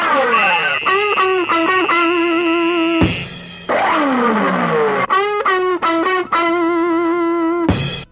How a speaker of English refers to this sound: That's quite a tune you're humming there.